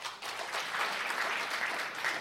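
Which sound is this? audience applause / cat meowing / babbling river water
audience applause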